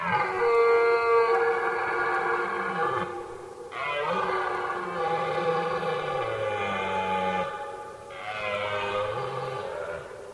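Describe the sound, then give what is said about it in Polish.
Red deer stags bellow during the rut in a forest: three long, deep, rasping roars of several seconds each, their pitch wavering and sliding, following one another with only brief pauses and no talking. “Takim tematem popularnym jest oczywiście rykowisko, szumne wydarzenie w lesie.”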